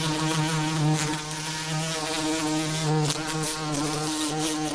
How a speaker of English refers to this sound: A bee? It is a bee. Well done, yeah. The sound of bees in the garden.